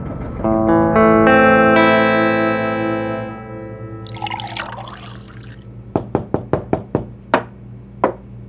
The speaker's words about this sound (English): About an hour after the stagecoach arrived in Buckskin, carrying the body of Judge Theodore Grumbler Grampus, a knock sounded on the back door of the marshal's office.